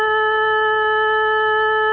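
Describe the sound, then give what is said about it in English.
A steady electronic tone from a radio broadcast out of Stockholm, Sweden holds at one pitch for the whole moment, bright and buzzy with strong overtones, fairly loud and unchanging, with no voices over it. “Oh, no, there's a tone. We should listen to this, shouldn't we?”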